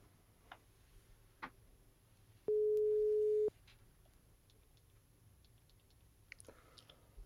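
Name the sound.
telephone ringback tone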